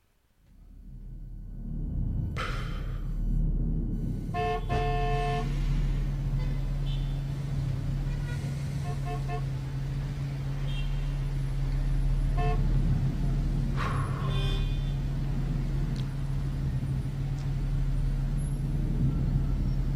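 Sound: car horns honking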